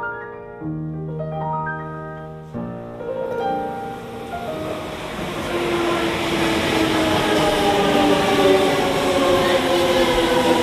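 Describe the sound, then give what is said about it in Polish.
A Shinkansen high-speed train, a type that runs at 240 km per hour, pulls away, its electric motors giving a stepped whine that climbs in pitch over a building, steady roar of rushing noise. Fairly loud, with no voices. “To jest taki pociąg, który pędzi z prędkością 240 na godzinę”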